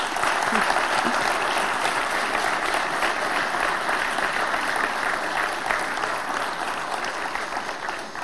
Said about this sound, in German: Der Ostergarten ist fertig, dafür sind alle Mitarbeiter sehr dankbar und ich glaube, die haben sehr geschackert und die haben einen kräftigen Applaus verdient.